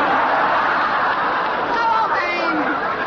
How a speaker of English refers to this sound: It was an inspiring sight. 5,000 kilted Scotsmen rushing through the tall thistles, screaming.